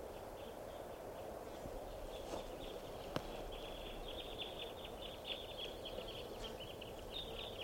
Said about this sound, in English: Must be 20 birds. There's a bird right here.